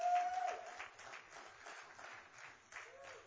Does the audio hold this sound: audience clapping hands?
yes